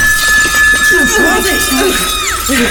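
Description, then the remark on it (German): A loud, steady high note sung by a woman fills the room, held for nearly three seconds, with warbling, squealing vocal sounds swirling beneath it, before the tone bends sharply downward near the end, as splinters shoot from a small rock niche in the wall. “Und ein lauter Ton füllte den Raum.”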